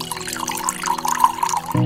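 Water pours steadily into a glass, a continuous liquid trickle with a rising, filling tone that runs for a couple of seconds before a brief thump at the end.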